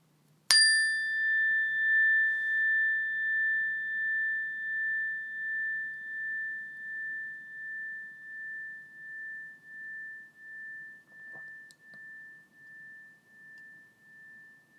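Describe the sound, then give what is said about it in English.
A single meditation bell is struck once, then rings on with a clear, sustained tone that wavers and pulses gently as it slowly fades over many seconds, heard alone. “When you hear the sound of the bell, take a few deep breaths in and a few deep breaths out through the belly and then wait for further instructions.”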